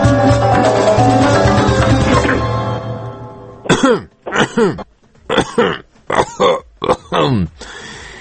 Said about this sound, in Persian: من سرفه کردم که صدای تو صاف شه.